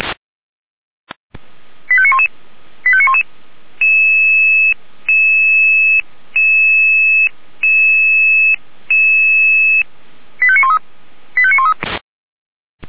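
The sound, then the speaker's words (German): A loud sequence of electronic radio pager alert tones for the fire brigades of the city of Weimar, sounded as a test of the radio alarm receivers: quick rising chirp bursts, then five sustained two-pitch tone blocks in a steady rhythm, more chirps, and a final click, with no voices. “Überprüfung Funkalarmempfänger für die Feuerwehren der Stadt Weimar.”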